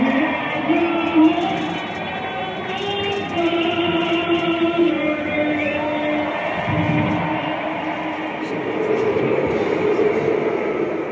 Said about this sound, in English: That was last season when fans in New England booed Patriots players taking a knee during the anthem.